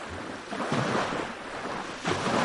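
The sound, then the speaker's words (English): A steady roar of rushing water from the Muradiye waterfall in Van, Turkey, dense, with the surge swelling and easing in slow waves. No voices, just the continuous churning wash of the waterfall. “The Muradiye waterfall is a must-see place in this region.”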